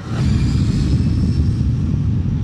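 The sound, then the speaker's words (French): A loud, steady roar of an airplane engine at the threshold of runway 23 at AIG airport, deep rumbling low end with a faint high whine, continuous for the whole stretch with no voices. “Donc ici, on se trouve au seuil de piste 23.”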